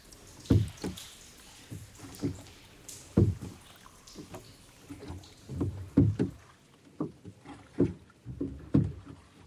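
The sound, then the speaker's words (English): Oars dip and pull through river water in a steady rowing rhythm, each stroke a dull splashing thump roughly every second, with soft watery sloshing between strokes and no voices. “Row, row, row your bow gently down the river, infinitely gliding down the water.”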